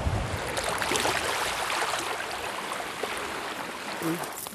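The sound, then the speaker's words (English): Steady lake waves wash over a pebble beach on Lake Superior on a chilly day, a dense hissing and fizzing rush with faint clicks throughout and only slight swells in loudness, with no talking. “The waves come and wash the pebbles out.”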